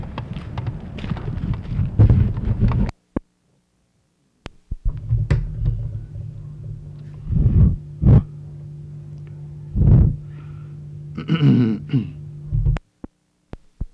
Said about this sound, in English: Let me open that door. All right.